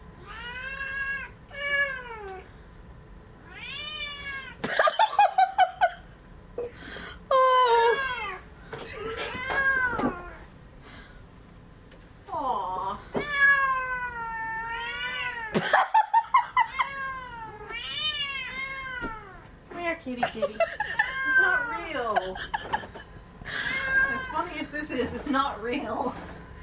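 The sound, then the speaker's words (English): A recording of a cat plays, meowing and caterwauling over and over, with long, wavering yowls in a steady series, loud, broken by a few sharp bursts of noise. “Kitty, it's not real.”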